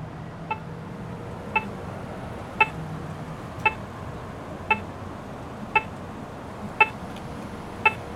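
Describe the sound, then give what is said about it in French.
An accessible pedestrian crossing signal on a street in Montréal, Canada, which lets blind people cross at pedestrian crossings, beeps steadily, eight short, sharp tones about a second apart, over a constant low rumble of street traffic. “C'est un bip-bip pour que les personnes aveugles puissent traverser les passages piétons.”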